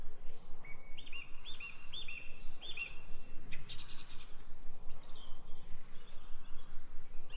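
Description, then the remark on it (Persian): Calls of seabirds flying above a large sea of clear water repeat in short rising chirps through the first half and again near the end, over a steady soft background hiss. No one speaks. “یک صحرای سبز و زیبا که در انتهای صحرا دریای بزرگ با آب زلال رو می‌بینی که بالای دریا پرندگان دریایی در حال پرواز هستند.”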